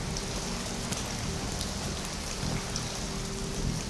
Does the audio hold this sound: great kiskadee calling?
no